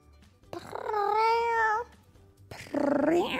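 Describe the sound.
A child's voice imitates a cat, playing Beans the cat, with two meows: a long rising-and-falling one followed after a short pause by a second, brighter one, fairly loud with no talking.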